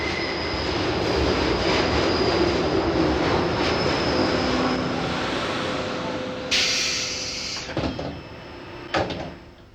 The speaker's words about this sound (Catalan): El tren que arriba per la via segona és un comboi d'ús especial del govern. Sortirà a les 4:20 amb destinació a Tsugi. Està prohibit a les persones no autoritzades travessar la barrera i pujar aquest tren.